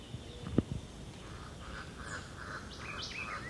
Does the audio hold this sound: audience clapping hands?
no